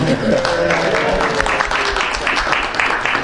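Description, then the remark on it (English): Dense, steady applause from a group fills the whole stretch, a loud wash of overlapping claps with faint voices mixed in underneath. “I'm the only one to get applause.”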